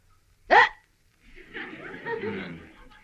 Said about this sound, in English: I've got the hiccups. Oh, fine. Never mind. I think they've stopped now.